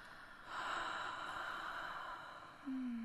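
A long, airy, deep breath drawn in, steady for about two seconds, then a low humming tone starts at the very end. No one speaks.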